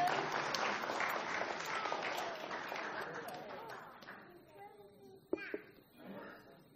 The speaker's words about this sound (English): I think it deserves a clap. I think so.